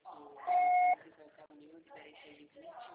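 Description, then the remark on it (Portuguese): A single loud, steady electronic voicemail recording beep, following a Portuguese prompt to record a message, holds a flat mid-high pitch for about half a second while muffled talking continues before and after it. “Grave seu recado. Seu sinal será tarifado após o sinal.”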